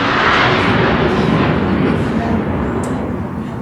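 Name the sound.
jet aircraft flying overhead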